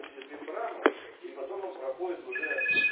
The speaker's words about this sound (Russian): сейчас подождите, кто другой телефон еще звонит.